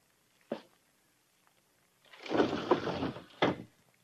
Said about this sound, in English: Anything else you wanted me besides opening this window, Uncle?